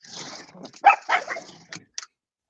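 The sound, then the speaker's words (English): A female dog barks a few times in short, sharp bursts, two louder barks close together followed by a couple of quicker yips, with no talking. “Your dog is calling you back. Let her out and we'll finish this properly.”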